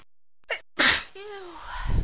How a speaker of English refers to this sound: But I have no idea what's making me sneeze. What's making me sneeze so much? Oh, my nose. Oh, this is the worst. Sneezing fit I've ever had.